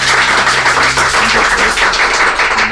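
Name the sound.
audience applause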